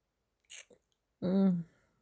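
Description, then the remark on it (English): A soft, wet kiss on the neck with a tiny second click, followed after a pause by a short, low hummed murmur from a voice. “And I like kissing you on your neck, just here, where I can feel your fingers pulsing under my lips.”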